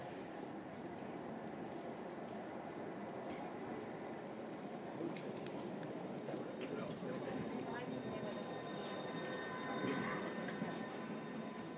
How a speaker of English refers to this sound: We don't want that train, but still.